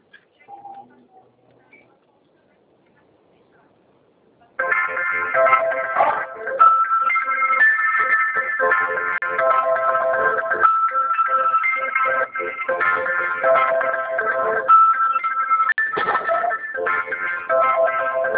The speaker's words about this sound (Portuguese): O telefone tocou aqui, não estou falando.